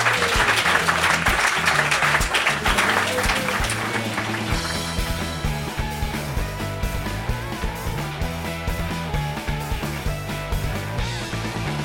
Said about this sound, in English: So thank you very much for coming today. Please give a big round of applause for our three guests.